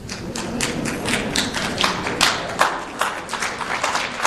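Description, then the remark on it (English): An audience at a bilingual English and French speech applauds steadily for several seconds, many hands clapping in a dense, continuous patter with occasional sharper claps standing out, and no voices. “So, from that applause, I think I know who agrees with me, and I think the others probably want to kill me.”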